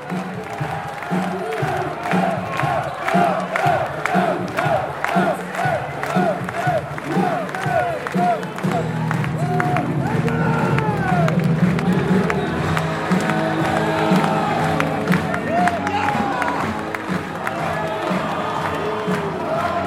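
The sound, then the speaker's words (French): A stadium crowd of supporters chants together in rhythmic waves with players who come before the CGT stand, the players chanting and the crowd answering, while scattered applause and cheers rise around them, a dense, loud wall of many voices from start to finish. “ils viennent devant la tribune CGT pour chanter, pour communier avec le public, avec leurs supporters. Ils chantent et on leur répond.”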